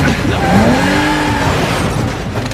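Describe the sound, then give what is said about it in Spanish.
A loud, dense car chase: roaring engine noise with squealing tires that bend in pitch, sustained throughout as vehicles race by. “Peleas cuerpo a cuerpo, persecuciones motorizadas...”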